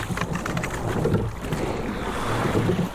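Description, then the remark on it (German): A rowing boat on a touring row moves steadily through water with a continuous wash and splashing, mixed with wind noise buffeting the microphone, moderately loud, with no voices. “Viele, meist etwas ältere Ruderer, bevorzugen das Wanderrudern gegenüber dem Rennrudern.”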